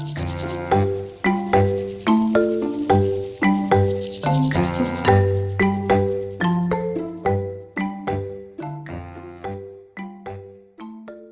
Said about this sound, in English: The sound of grasshoppers and crickets, it to me is the sound of a healthy garden and a nice environment to be in.